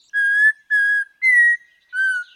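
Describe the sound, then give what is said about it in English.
An Audubon's oriole sings four clear, pure whistled notes, each held about half a second with short pauses between, steady, the third note slightly higher, with no other sounds around. “In the 1940s, Roger Torrey Peterson, the renowned author of bird ID books, wrote, "The song suggests a boy learning to whistle."”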